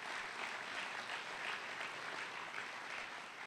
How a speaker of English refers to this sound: Please all give them a warm round of applause for their generous support.